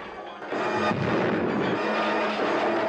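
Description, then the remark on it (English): A heavy mine train's end hopper, dislodged when the train fails to stop at the end of the track, smashes through a wall into a control room with a sudden loud crash at about half a second, followed by a sustained roaring rumble of grinding metal and falling debris, without voices. “The train fails to stop at the end of the track, dislodging the end hopper and sending it crashing through a wall into the control room.”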